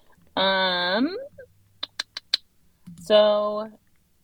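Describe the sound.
Four quick, sharp computer mouse clicks in a brisk, even run, made while searching the Scut website for a test kiln, set between two stretches of drawn-out voiced sound.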